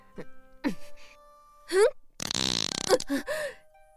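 A single loud, raspy fart from a woman in front of a large crowd of villagers during a dance, a sputtering blast lasting under a second, framed by short breathy vocal sounds and moans just before and after it.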